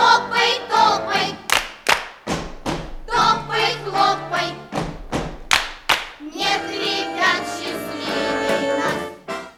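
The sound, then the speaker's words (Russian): Sharp handclaps and heavy foot stomps of the 'Khlopai-topai' (Clap-Stomp) dance from the radio show Radionyanya land in a lively, uneven rhythm over bouncy music, loud, before the music swells on its own near the end. “Только мы хотим напомнить ребятам, что дома этот танец надо танцевать осторожно и не путать танец «Хлопай-топай» с танцем «Прыг-скок, обвалился потолок».”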